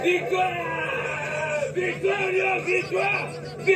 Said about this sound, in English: This was him screaming victory while marching into the stadium at a recent World Cup game. From the waist up, his body is painted in the colors of Cameroon's flag.